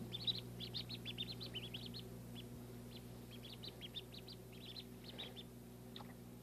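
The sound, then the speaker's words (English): Ducklings peep in quick, high-pitched bursts, many overlapping chirps crowding together, then sparser clusters, over a steady low hum. “The boy ducklings grow up to be daddy ducks, and the girl ducklings grow up to be mama ducks.”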